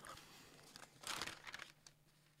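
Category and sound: household object, newspaper pages being turned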